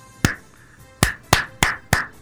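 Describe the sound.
Six sharp, loud hand claps with no talking, done in a studio by four people imitating the Icelandic geyser slow clap: a single clap, a pause, then five more in a steady, slow rhythm.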